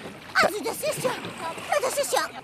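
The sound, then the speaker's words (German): Eight oars of a rowing crew pull through the water with repeated splashy, rushing strokes as the boat speeds up, with the seats rolling back and forth, while several voices call and talk over the top throughout. “Ja, krass, wie schnell das Boot wird, wenn 8 Paddel durchs Wasser gezogen werden.”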